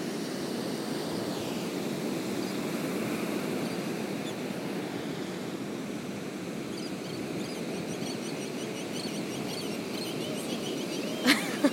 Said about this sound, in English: Probably because it's very peaceful here and it's nice to just listen to the ocean and the waves.